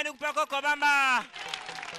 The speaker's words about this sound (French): Merci, on applaudit très très fort pour lui.